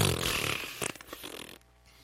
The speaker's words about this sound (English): Farting balloon.